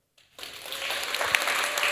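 A crowd at a stage competition bursts into steady applause after a brief moment of silence, cheering the two contestants going through to the final; the dense clapping swells and holds at a loud, even level, with a few sharper claps standing out.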